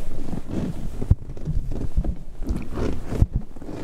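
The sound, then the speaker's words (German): A leather armchair creaks and squeaks as someone sits down on it, a run of rubbing, groaning creaks with a couple of sharp knocks, fairly loud, with no one talking. “Und das ist, hab mich daran erinnert, hör mal, so klingt das, wenn ich auf den Sessel mich setze, hört mal.”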